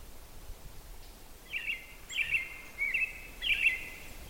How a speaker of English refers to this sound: Wonderful to wake up now, come outside, and hear things like robins singing and all kinds of other birds.